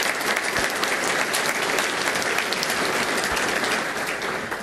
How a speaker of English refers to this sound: Let's give all of our participants a round of applause.